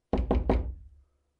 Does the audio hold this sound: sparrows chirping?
no